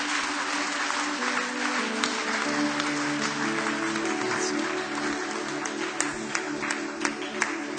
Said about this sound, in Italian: Grazie di cuore, facciamo un applauso a Gesù e continuiamo.